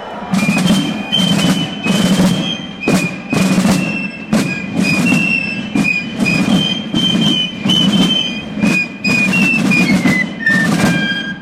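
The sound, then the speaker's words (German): Masked carnival drummers and fife players march through Basel at 4 a.m. during the Morgenstreich opening the Basler Fasnacht, streets lined by tens of thousands of spectators: loud, steady drum beats in a driving rhythm beneath a shrill, high-pitched fife melody that runs continuously, with no voices. “Trommler und Pfeifer zogen mit ihren Masken durch die Stadt.”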